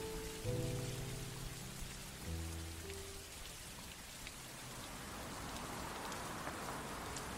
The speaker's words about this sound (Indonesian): Hujan mulai reda, walau langit sudah berubah menjadi gelap.